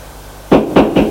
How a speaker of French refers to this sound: L'on frappe à la porte. Entrez. C'est la bonne qui apporte le bouillon.